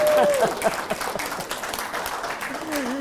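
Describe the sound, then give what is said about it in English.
An audience breaks into steady, dense applause for a call to support the peace process with North Korea, lasting the whole few seconds, many hands clapping at once with a few voices calling out underneath. “And right now, I think that deserves some applause, actually.”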